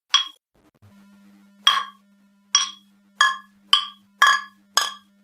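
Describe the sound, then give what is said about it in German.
Beer glasses clink together in a toast over a second Tiski beer, about seven bright ringing taps, sparse at first and then quicker, with a low steady hum underneath and no talking. “Also, wir nehmen uns jetzt das zweite Bier.”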